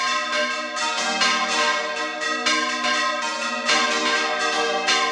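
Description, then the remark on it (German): Church bells ring loudly and continuously, overlapping peals with rich, sustained harmonic tones and repeated fresh strikes, rung by hand by about half a dozen men and women up in the bell tower, smaller and larger bells, some over 1 metre in diameter. No voices. “Ein gutes halbes Dutzend Männer und Frauen stehen hier oben, läuten die Glocken.”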